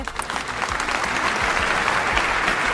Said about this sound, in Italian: E allora un applauso per il signor Felice!